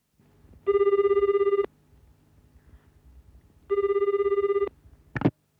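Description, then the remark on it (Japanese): A telephone ringback tone sounds twice, each ring lasting about a second with a pause between, clear over a quiet line, as an international student calls a school. It ends with a brief click as the call is picked up by the academic affairs office of Maruyama Electronics Vocational School. “留学生が行きたい学校に電話をしています。”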